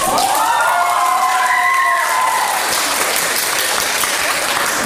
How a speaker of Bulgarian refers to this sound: С бурни ръкопляскания кандидат студентите приеха и втората тема, сравнение на два цитата.